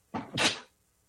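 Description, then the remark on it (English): A single sneeze muffled into a t-shirt: a quick sharp intake followed by a breathy, hissing burst, then quiet. No one talks. “I am a little bit about to sneeze.”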